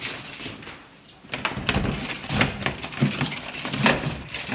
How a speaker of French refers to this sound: On quitte l'alcôve de Madame du Barry et on arrive chez le roi. Voilà, je vais ouvrir la porte.